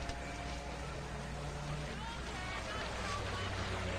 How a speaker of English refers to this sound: Now, offshore, a police boat idles on the water. Two scuba divers roll backwards off the side.